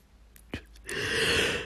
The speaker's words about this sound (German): Mein Hirn entspannt sich schon wieder. Gähnen ist ja auch was Positives, muss ja nichts Negatives sein.